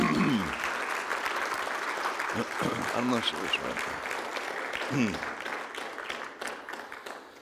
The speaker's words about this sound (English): Can we just give not only the children but our kids, volunteers, the adults, that I'll just give them a round of applause. We're so thankful.